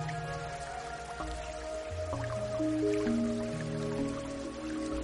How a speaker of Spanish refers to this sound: Es otro sistema de separación de sólidos, es arena. Va pasando todas estas capas y por aquí por el principio nos sale el agua filtrada, nos sale el agua más limpia.